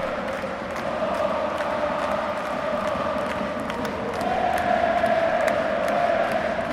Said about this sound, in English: I don't want to say Schalke under Peter Bosch, but blimey, Dortmund are giving themselves a bit of a fright here. So the fans just turned up the volume.